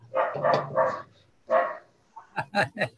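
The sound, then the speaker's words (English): A dog barks repeatedly, several loud bursts in an uneven series, with a brief pause midway before a quicker run of four or five shorter barks. “My dog.”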